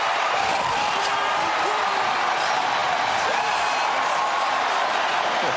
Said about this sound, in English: That is the crowd. How sweet it is. 45,000 fans watching the Jumbotron.